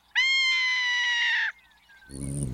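A ferruginous hawk gives one loud, drawn-out scream, harsh and steady in pitch for over a second, then a faint thin falling whistle before a low, rough sound swells in.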